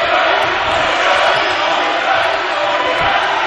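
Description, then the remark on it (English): A basketball crowd, including fans on the George Ranch side and a traveling crowd of Eagles fans, cheers in a loud, steady roar that fills the whole clip, a dense wash of many voices with no break or single standout shout. “Good crowd on the George Ranch side. Good traveling crowd by the Eagles”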